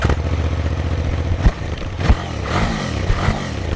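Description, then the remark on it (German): A KTM 990 Adventure twin-cylinder travel enduro motorcycle, 2006 model year, with a new 990 engine with electronic fuel injection, runs steadily with a low, throbbing idle, punctuated by a couple of sharp mechanical clunks and brief revs rising and falling, with no talking. “Das Abenteuer KTM 990 Adventure.”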